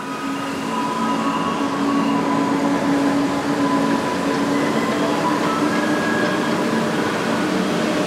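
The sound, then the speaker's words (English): A garbage truck rumbles steadily past, its heavy engine drone filling the whole clip while a jingle of sustained electronic notes, not Für Elise and much like an ice cream truck tune, rings out over the noise. No one speaks. “The song is supposed to not just alert you to the location of the garbage truck, it's supposed to alert you that it's time to come bring out your trash.”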